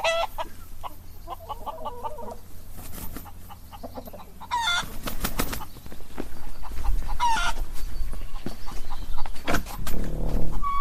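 About 100 hens cluck and squawk together in a busy coop, with overlapping calls and a steady background bustle, the noise growing fuller and louder toward the end.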